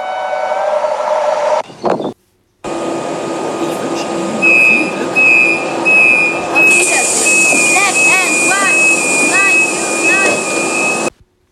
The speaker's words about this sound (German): Oh, mein Zug fährt jetzt.